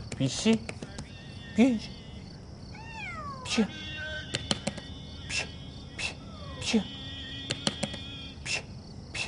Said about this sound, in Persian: نردبونو بردار بذار این ور. نردبون اول اون ور بود، گربه اومد این ور. آوردم این ور، گربه رفت اون ور. یه گربه میخوای بگیری ها؟ اهلی که نیست، خیابونیه.